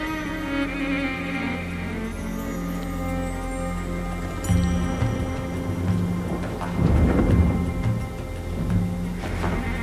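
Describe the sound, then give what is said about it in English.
Heavy rain pours steadily throughout, with a couple of deep rolling thunder rumbles swelling up midway and near the end, and no voices. “On days like today, when the rain pours from the skies, and you feel the world leaking upon you, it reminds me.”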